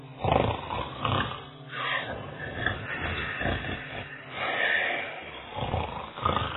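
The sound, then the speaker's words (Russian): Loud, rumbling snores repeat in a steady rhythm, overlapping as more than one sleeper snores: sleeping robbers, a wolf and a boar, heard from inside their house in a forest, with no talking. “Изнутри слышался храп спящих разбойников.”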